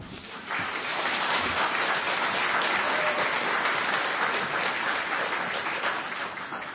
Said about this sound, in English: Can we please give a warm round of applause for all our kids here today?